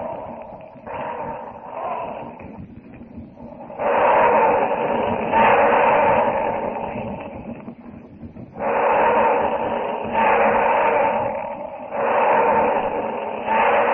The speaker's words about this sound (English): Tarzan sweeps Jane to him as the herd of stampeding elephants crashes down the narrow jungle trail toward them.